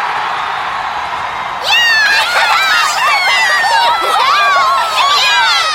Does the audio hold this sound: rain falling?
no